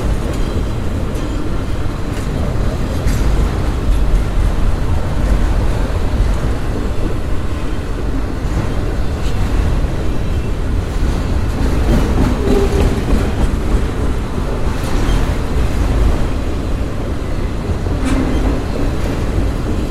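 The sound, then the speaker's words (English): A train rolls by loud, a continuous heavy low rumble with rattling wheel clatter running throughout and no voices. “But anyway, after slipping on that little patch of ice, well, let's listen to this train a minute.”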